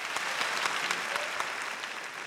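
A crowd claps steadily for Piedmont Hospital, a dense wash of many hands applauding at moderate volume with no pauses, filling the whole stretch without any voices rising above it.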